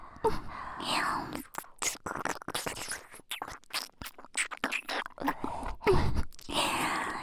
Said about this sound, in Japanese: 君、舐められるの好きだもんね。舌に合わせて吐息が漏れて、興奮してるのが伝わってくるよ。